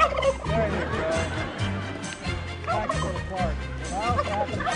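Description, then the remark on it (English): A turkey gobbles repeatedly in loud, warbling bursts, with a low rumble of crowd noise and faint voices underneath throughout. “This turkey represents America's 45 million turkeys who will begin making their irreplaceable contribution to our Thanksgiving celebration.”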